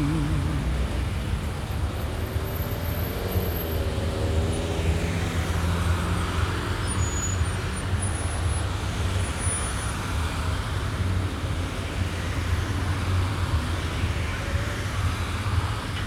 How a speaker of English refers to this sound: There's my bus. About to go. About to go right to where I gotta be. There's my bus. About to go. There's my bus. Bus done come to get me.